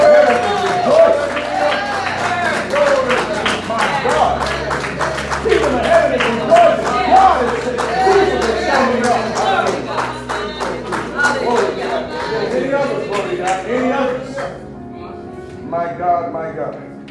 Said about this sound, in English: Come on in here. Let's give you guys a round of applause. Amen. Come on, you can do better than that.